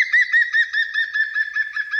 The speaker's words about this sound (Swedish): De kommer här igen som påminnelse och jämförelse. Gröngöling först.